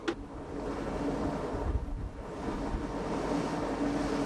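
Steady wind buffets the microphone over a continuous wash of sea waves, with a low engine-like rumble underneath, on the open deck of the rescue ship Ocean Viking, about 130 kilometers off the Libyan coast in international waters; no one speaks.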